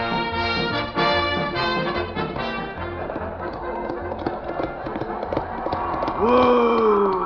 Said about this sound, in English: Whoa! Whoa! Oh, come on, horse, whoa!